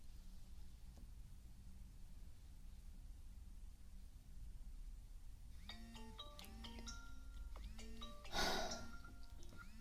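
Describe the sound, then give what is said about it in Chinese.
After several seconds of low background hum, a phone's melodic ringtone for an incoming call late at night starts up and plays a stepping tune of bright electronic notes, fairly soft and continuing to the end, with no one speaking. “他这么晚给你打电话干嘛？”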